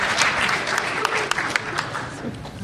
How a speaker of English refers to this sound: So a round of applause for the panelists for not being hungover.